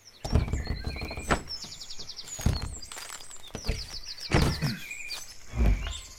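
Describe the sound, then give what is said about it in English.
A wooden door of an intact building about 8 by 4 metres with a pitched roof creaks open in a few drawn-out, squealing strains, broken by dull knocks and thuds as it shifts, moderately loud, with no voices. “A wooden door, but Will it open?”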